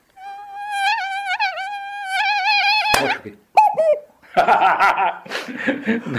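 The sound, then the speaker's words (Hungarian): A short warbling bird call imitated by a human voice, coming right after a long nasal buzzing imitation of a mosquito and a sharp slap, followed by bursts of laughter. “Az egyik az egy madár”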